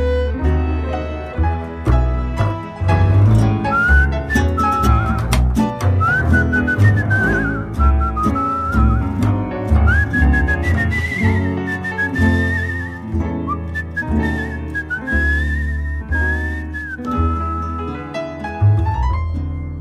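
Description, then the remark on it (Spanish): A clear whistled melody winds through a full musical accompaniment, sustained and tuneful with gliding notes, carrying steadily for the whole stretch without any talking. “Déjame que te silbe una canción.”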